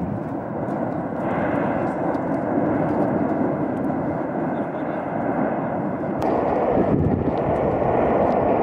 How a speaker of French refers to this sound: vous allez entendre l'explosion qui va survenir